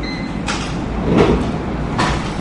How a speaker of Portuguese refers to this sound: Esse barulho, ele vai começar a fazer raspadinha. Aí ele começou a...